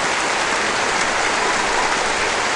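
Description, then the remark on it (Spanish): A studio audience applauds itself steadily, a dense, even wash of clapping that holds at a constant loudness for a few seconds with no voices over it. “Un fuerte aplauso para el público.”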